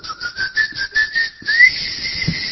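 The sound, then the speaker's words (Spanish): A person whistles at a keychain finder to make it respond, a quick run of short, rhythmic notes, then one longer, steady whistle. It is fairly loud, with no talking. “Usted le chifla y el llavero le responde.”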